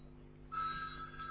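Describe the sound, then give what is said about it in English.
A phone starts ringing partway through with a steady, warbling electronic tone. It sounds fairly quiet over a low background hum, and nobody speaks. “This is maybe an important call, hold on.”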